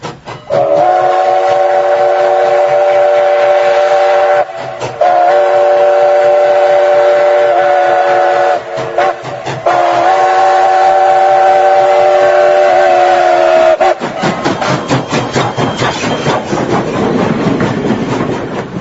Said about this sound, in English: The jury is back in, and the choo-choo train was rolling down the tracks.